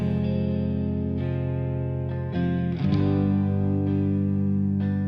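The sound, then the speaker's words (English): Low strings hold a dense, droning hum, sustained and steady, with a few soft re-bowed swells along the way; loud, with no voices. “Low strings hum.”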